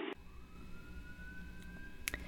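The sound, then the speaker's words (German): A police car siren wails faintly where the person being spoken to is, a single drawn-out tone slowly rising in pitch over a low, steady background rumble, with no one talking. “Ich höre die Polizei bei dir.”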